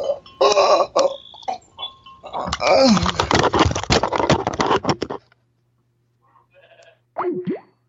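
A goat bleats loudly and close by in several harsh, wavering cries over about five seconds, then falls quiet before one short bleat near the end.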